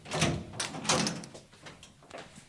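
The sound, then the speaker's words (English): A door being unlocked and opened: a few scraping, rattling bursts close together, then quieter clicks and shuffling as it swings open, with no voices. “So I'll just unlock the door.”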